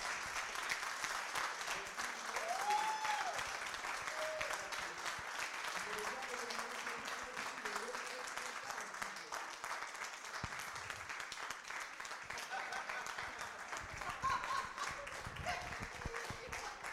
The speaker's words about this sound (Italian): vi lascio con l'applauso della Dipcon